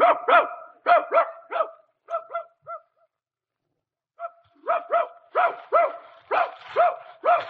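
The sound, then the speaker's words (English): A dog barks excitedly in quick, sharp bursts as it is called to go rabbit hunting, falls silent for about a second, then resumes with a rapid, insistent string of barks. No one speaks. “Hey, dog, Hap! Hap, come on. Come on, let's go hunt.”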